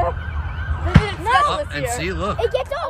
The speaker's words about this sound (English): That is the sound from Newsday from an onlooker when falling debris prematurely set off mortars and started a fire at the East Meadow Eisenhower Park. The fire was confined to that area.